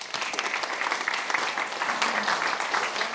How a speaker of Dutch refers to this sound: Geef ze een applaus.